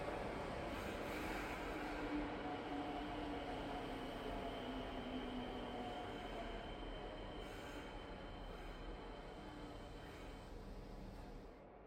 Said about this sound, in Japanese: 電車来ちゃったね。本当に乗るんだ、この状態で。乗らないと電車行っちゃうもんね。